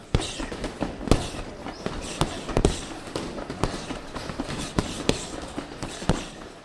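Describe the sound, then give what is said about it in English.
Boxing punches smack at Drake's downtown gym in Dayton, Ohio, where people train for the Dayton Knockout charity event: a dozen or so sharp, irregular hits, some much harder than others, echoing over a busy background with no clear talking. “The punches are flying as part of Dayton Knockout, a first-time charity event to be held February 25th at Memorial Hall.”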